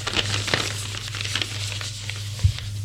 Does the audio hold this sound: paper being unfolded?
yes